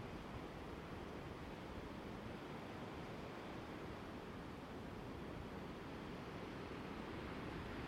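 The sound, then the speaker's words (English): A steady, full roar of sea surf washing against the shore at sunset, continuous, with no distinct gaps between waves and no voices. “So to look out to sea, there's a fishing boat.”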